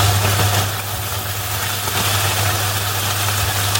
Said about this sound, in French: En fait, ils ont créé une bande son qui diffuse le crépitement du poulet frit pour t'aider à t'endormir. Voilà, il y a 20 minutes de son de poulet en train de frire.